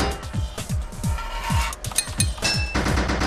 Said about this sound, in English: Five pipes in your toolbox. Here we go. 13 total pipes to fit this level. 5 hits of your hammer to fit a pipe.